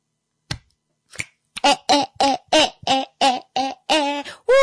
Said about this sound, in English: All right. That was me giving myself a round of applause. Thank you so much.